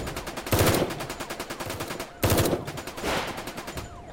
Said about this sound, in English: I could hear more gunfire ahead.